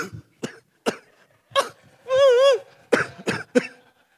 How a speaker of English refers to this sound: And then it says, sometimes you develop a cough.